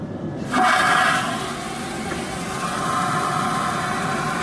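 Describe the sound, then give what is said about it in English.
An airplane toilet flushes with a sudden, loud hissing whoosh that bursts in, peaks for about a second, then eases into a steady rushing roar that continues to the end. “Oh, and thanks to this airplane for taking me places. Here's a real life flush.”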